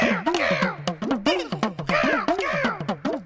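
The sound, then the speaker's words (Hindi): Black crows caw at a window in a rapid, overlapping chorus, harsh calls repeating close together and loud throughout, with no voices or other sounds. “काला कौवा का काँ करके खिड़की पे चिल्ला रहा”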